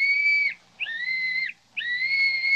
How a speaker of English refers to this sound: Sure, and he gave me this little whistle and said if we ever needed help, just to blow on it 3 times, and he'd come a-running.